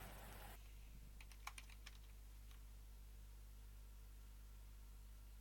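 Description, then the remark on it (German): A short burst of computer keyboard typing as someone types up a request, several quick quiet keystrokes close together, over a steady low electrical hum and faint background hiss, with no voices. “Ich würde mir geben, eine Anfrage quasi noch zu tippen, das Ganze gerne mal reinhauen, damit ich mich noch selber dran erinnere, falls ich es verscheiße.”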